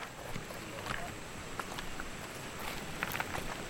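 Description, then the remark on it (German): Irregular footsteps crunch and scuff up a narrow footpath leading from a riverbank at a river bend to a hilltop, a handful of soft steps against a steady rushing outdoor background, not loud. “Schließlich verlassen wir das Ufer und steigen an einer Flussbiegung einen schmalen Trampelpfad hinauf zu einer Anhöhe.”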